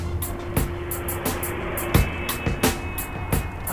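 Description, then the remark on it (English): A small rental car pulls a U-turn out of its parking spot, with a steady low engine and road rumble, broken by regular sharp clunks and thumps as it rolls over the surface, with no talking. “She just pulled a U-turn right out of her parking spot.”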